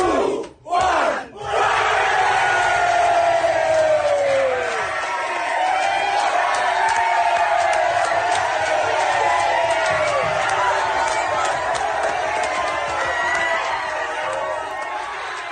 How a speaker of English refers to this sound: But for our moment of the week, we've got this little video of some celebrations in Fiji as the final siren went.